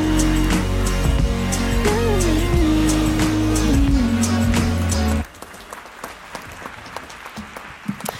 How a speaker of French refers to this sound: Le studio de France Inter qui applaudit. Non, c'était dans le morceau.